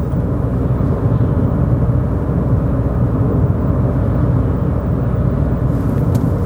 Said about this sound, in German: Und bleib gerade eine Runde dabei, fahr noch ein, zwei Sekunden mit mir Auto und dann hören wir uns gleich wieder.